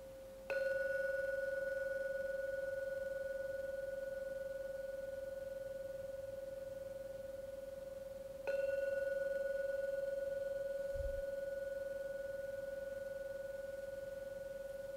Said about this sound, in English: I'm now going to ring the gong 3 times. Please listen to the sound of the gong. When it finishes, come out from the meditation.